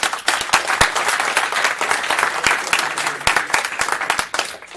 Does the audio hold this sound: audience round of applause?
yes